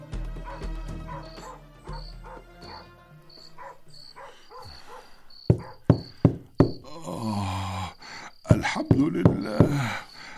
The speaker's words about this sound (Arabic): زيد، ادخل يا ابن محمد، ادخل ادخل، رحمك الله يا زيد، لقد عرفتك من كيفية دقك الباب، ادخل.